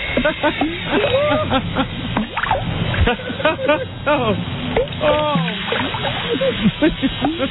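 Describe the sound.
Water sloshes and splashes steadily in a bathtub while voices chatter and exclaim over it the whole time.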